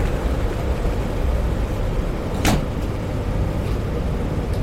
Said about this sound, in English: Step back. Door's closing.